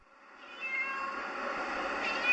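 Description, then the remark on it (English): Cats meow on Spinoza Street in Tel Aviv, in front of a small building, their cries overlapping and rising in a steady chorus over a faint outdoor background, with no talking. “I'm standing in front of a small building on Tel Aviv's Spinoza Street, and there are cats everywhere.”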